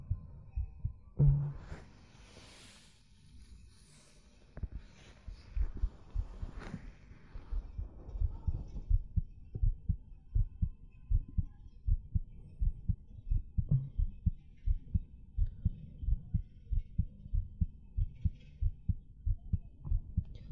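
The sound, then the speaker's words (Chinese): A muffled human heartbeat thumps in a steady rhythm, low and soft, after a few seconds of rustling at the start; no one speaks. “希望你可以入睡的，听着我的心跳，可以让你觉得安心。”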